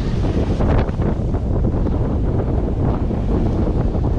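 Strong wind buffets the microphone in a steady, loud rumble, with a roar of ocean surf mixed in underneath; no voices, just continuous blustery noise throughout.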